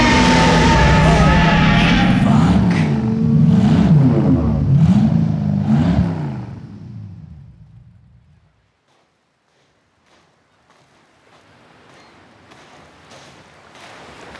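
A loud, heavy monster truck engine roars and revs in rising, falling surges for about six seconds, then fades out into near silence before faint low rumbling and clatter return.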